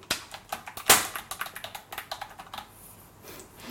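Rapid, uneven clicking of keys on a computer keyboard as someone types, fairly crisp, with one louder clack near the start and the taps thinning out toward the end.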